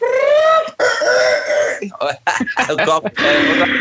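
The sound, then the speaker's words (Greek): A person imitates a hen's clucking with their voice, a string of loud, nasal bursts and squawks with short pauses between them. “Σε έκανε αυτό το κουρκουρκουρκουρ.”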